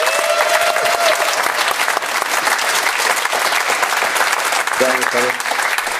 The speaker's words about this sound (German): wir begrüßen ihn mit einem herzlichen Applaus, würde ich sagen, hier aus München.